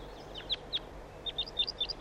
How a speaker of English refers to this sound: Start recording flight calls of the birds. Wild bird, wild.